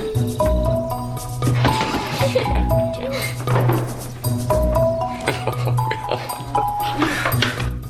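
Someone crashes around rummaging through drawers: steady clattering, knocks and rattling of objects for the whole stretch, with sharp clinks and a few squeaky, drawn-out scraping tones.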